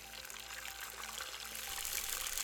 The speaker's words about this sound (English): Step number 9, now that the butter's melted, pour the eggs in.